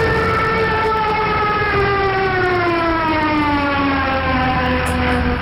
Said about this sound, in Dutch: Ja, dat was hem. Nou, geen vogel die dat geluid maakt, hoor. Nee, dat is de... Vliegtuig.